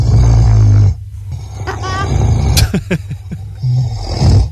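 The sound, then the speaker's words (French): A man snores loudly at night in summer, recorded by his wife: a long rumbling snore followed by shorter, ragged ones, with quiet gaps, faint clicks and a brief high chirp in between. “c'était il y a un ou deux ans, ma femme m'a enregistré quand je ronflais la nuit.”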